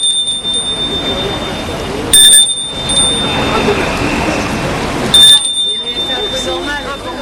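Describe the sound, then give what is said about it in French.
A house doorbell rings twice, two short, bright electronic bursts about three seconds apart, over a steady background murmur that sounds like muffled voices. “Il a entendu sonner la porte et se demande qui cela peut être.”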